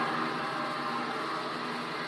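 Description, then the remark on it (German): A stone-cutting saw runs at idle, giving off a steady, fairly loud whirring drone that holds constant from start to finish, with no voices present. “Das ist jetzt die Säge im Leerlauf.”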